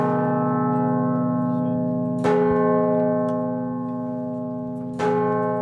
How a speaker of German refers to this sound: Auf fast 80 Metern Höhe harren hier seit Jahrhunderten 10 Glocken.